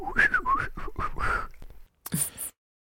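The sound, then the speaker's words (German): A few short, gliding whistled notes at mid pitch, a whistle to call back a trained mouse named Mortimer, blended with breathy vocal sounds, then a brief pause and a short hissing burst. “Das ist der Pfiff, um ihn zurückzurufen.”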